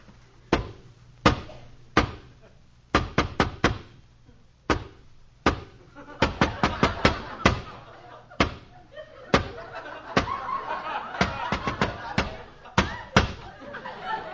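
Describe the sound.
The Artful Dodger knocks on Fagin's door, up some steps, in an elaborate coded special knock: dozens of sharp raps in uneven groups, quick bursts broken by short pauses, with faint murmuring voices under the later stretch.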